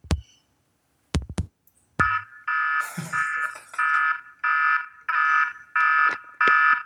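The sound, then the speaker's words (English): A few sharp clicks and thumps, then a loud, high-pitched siren alarm blaring in steady repeated bursts, about seven evenly spaced pulses with no talking. “Is this the Baylor siren?”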